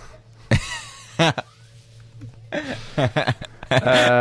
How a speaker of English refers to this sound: Do it into the mic so that it makes it more appealing. It's this phlegm. So it's a wet cough.